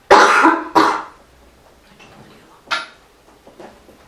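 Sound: coughing and throat clearing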